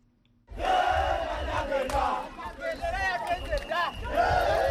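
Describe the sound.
A large crowd of supporters in Kampala, Uganda, cheers and shouts excitedly on their way to the Kololo airstrip on Thursday for the presidential inauguration, many voices overlapping in a loud, continuous roar of celebration with rising whoops and calls, starting abruptly after a brief moment of quiet.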